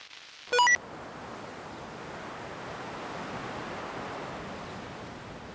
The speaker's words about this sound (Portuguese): Asómate para ver a praia e o mar bravo. Deixa que che dea o vento na cara. Esta é a praia do Penoural.